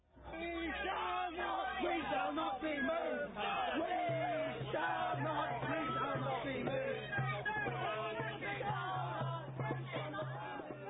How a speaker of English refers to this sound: Well, and they were cheering as she was led away.